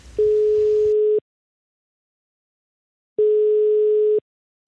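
telephone line tone

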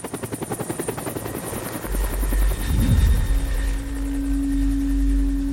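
helicopter rotor noise

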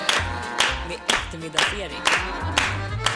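clapping along

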